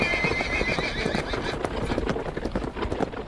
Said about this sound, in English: Seward and Haka, the Slovaks with their heavy wagon, are losing the ground. Now the horses are not more than a mile behind. Now the wagon is quite close.